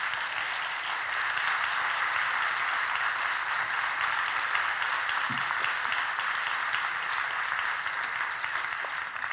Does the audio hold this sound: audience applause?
yes